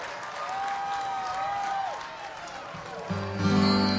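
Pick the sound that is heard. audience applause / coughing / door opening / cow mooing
audience applause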